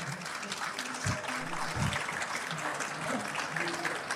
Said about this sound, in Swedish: Applåder.